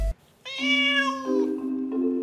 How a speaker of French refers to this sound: Si un chat miaule distinctement et bruyamment, c'est qu'il veut quelque chose.